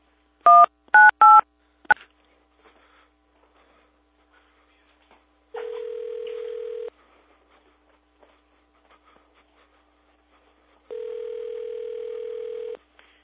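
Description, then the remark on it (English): Three quick touch-tone keypad beeps and a click as a prank call is dialed, then silence before two long, steady ringback tones about five seconds apart, with no one talking. “Center the phone number to call, followed by the pound key.”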